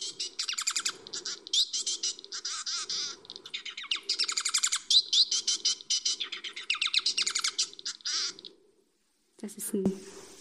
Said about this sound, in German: Vogel, der bengalische Fink oder japanisches Möwchen heißt das.